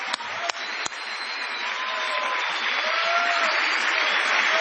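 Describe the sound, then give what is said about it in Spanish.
At an evening matinée of the show La Venganza Será Terrible, the crowd bursts into a sustained opening ovation for Tom Lupo, dense clapping building and holding steady and loud, with faint whistles and cheers rising through it. “Vamos a aprovechar el envión de la ovación inicial para saludar a Patricio Bartón.”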